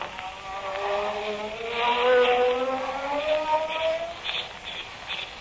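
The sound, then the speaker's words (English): A magic ray gun burning through handcuffs: a steady electronic buzzing hum that slowly rises in pitch for about five seconds, fairly loud with a hissing edge, no voices. “Now to burn these handcuffs off with my magic ray.”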